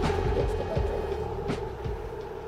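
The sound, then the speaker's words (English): A New York City subway train, the G train, rumbles steadily, with a sustained mechanical hum and a few sharp clanks and rattles from the cars, loud throughout. “Please stand clear of the closing doors. You're now boarding the ghost train.”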